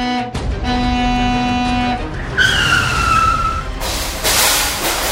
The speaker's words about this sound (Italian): Peppa Pig, dopo 11 ore di bevuta costante, uscì dal bar, ubriaca fradicia. Attraversando la strada si sentì un clacson.